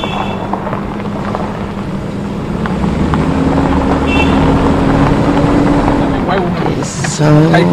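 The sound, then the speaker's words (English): A car drives over a rough, bumpy road, its engine droning in a loud, steady rumble from inside the cabin, with a brief voice-like tone near the end; the passengers are being thrown back and forth across the car. “So bumpy, and we're being thrown back and forth across it and across the car, and I get to ride in the front seat, and the people in the back seat,”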